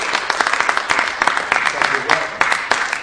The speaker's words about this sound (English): Can we give him a big round of applause?